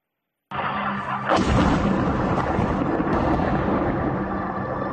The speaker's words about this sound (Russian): До сих пор слышен гул наших истребителей, самолетов в воздухе.